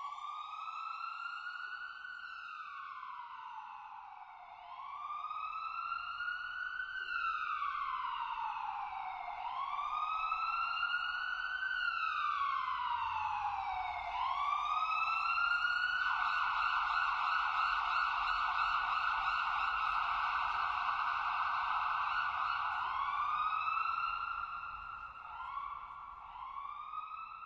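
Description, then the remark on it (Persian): An ambulance siren wails loudly, its tone sweeping up and down in slow cycles before briefly switching to a faster warble, with a low traffic rumble underneath. “در شهرها وجود مکانهای خاص مانند فرودگاه ها، ایستگاه های راه آهن و صدای بوق و اگزوز خودروها، آژیر آمبولانس ها و صدای ناشی از ساخت و ساز ها و ماشینالات صنعتی مهمترین منابع آلودگی صوتی هستند.”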